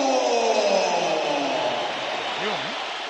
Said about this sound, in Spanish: Pitos, Unos pitos. Pitos, Bueno, para unos ovación y para otros los pitos siempre se oyen más que los aplausos